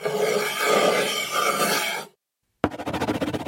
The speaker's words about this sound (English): Now she's writing on wood.